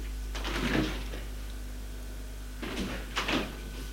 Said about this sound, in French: Elle a refermé la porte en se disant que ça doit être un de ces jeunes gamins qui traînent dans les parcs pour courir après les filles.